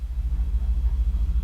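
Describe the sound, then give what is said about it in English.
Ambience of a Transport for London train depot, where trains are parked when not in service: a deep, steady rumble with a faint throbbing pulse, like idling heavy machinery. It is continuous throughout, with no voices and little above the low drone. “You can tell it's a depot because it sounds like this.”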